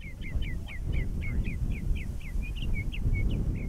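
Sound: birds chirping outdoors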